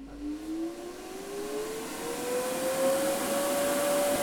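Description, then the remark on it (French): An electric air blower for a small inflatable bouncy castle starts up with a steady rush of air as its motor whine climbs in pitch over several seconds, then holds at a high, droning hum. “Ça c'est un souffleur pour le petit château gonflable.”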